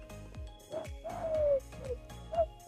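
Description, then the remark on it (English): A pigeon coos in a soft, repeated rolling call, several short throaty phrases over a low rumbling background, moderately loud. “That was a pigeon.”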